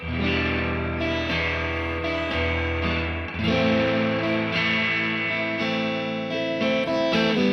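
Guitar chords strummed through a reverb pedal set to a normal amount of reverb, each chord ringing out and blending into the next in a steady, moderately loud sequence with no talking.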